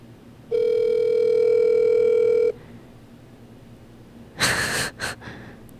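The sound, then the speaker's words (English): A single steady ringback tone through a phone line from an outgoing call lasts about two seconds and then stops, followed by a short burst of breathy exhaling. No one speaks. “Is it ringing?”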